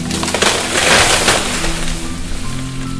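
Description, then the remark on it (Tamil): A tree comes down with dense splintering and cracking of wood, sharp crackles bursting over a steady low rumble that stays loud for about three seconds, with no voices. “இப்போது நம் மரம் விழ வேண்டிய நேரம் வந்தது.”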